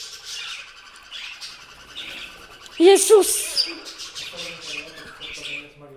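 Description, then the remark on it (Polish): A cockatiel chirps repeatedly in high, bright bursts throughout, while a person briefly exclaims over the calls midway through. “Ona jest smutna, bo nie ma drugiej nimfy, z którą mogłaby się bawić.”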